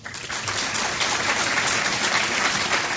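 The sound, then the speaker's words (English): A debate audience applauds the speakers steadily, with dense, even clapping that keeps a constant crackling wash for the whole stretch. No one speaks over it. “under the format agreed to by the campaign, you both applauded respectfully for both speakers, and that's great, but if we kept that to a minimum, would you get in more questions?”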